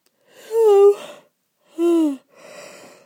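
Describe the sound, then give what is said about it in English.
A drawn-out yawn with a voiced, groaning tone, followed by a second shorter yawning moan and a soft, breathy exhale trailing off at the end. “Stop yawning down your ears.”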